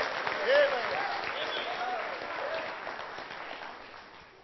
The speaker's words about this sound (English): Let's just give the Lord a good hand clap of praise this morning. Praise Him and bless Him in this place.